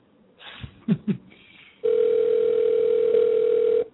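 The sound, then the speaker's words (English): A few soft clicks and handling knocks, then a telephone ringback tone while calling an MMA fighter: one steady, loud electronic buzz-tone lasting about two seconds, heard through the line with no talking. “He answers the phone.”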